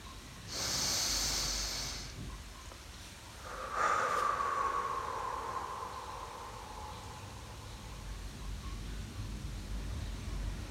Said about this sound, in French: Bien souvent le matin, je m'assois. Je prends une bonne respiration.